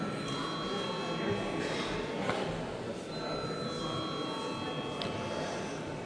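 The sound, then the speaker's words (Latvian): A parliamentary voting bell rings steadily before a vote on the urgency of a bill, a sustained electronic tone lasting several seconds over murmuring background chatter and room noise. “Lūdzu, zvanu.”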